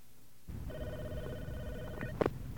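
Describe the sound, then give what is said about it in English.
A telephone rings with a steady electronic trill for over a second, then a sharp clatter as the receiver is lifted to answer an incoming collect call, cutting the ring off. “Now, what does the person picking up the phone hear?”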